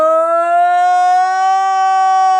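A loud, sustained emergency siren wail holds a steady, buzzy tone that drifts slowly upward in pitch, filling the whole moment with no talking over it.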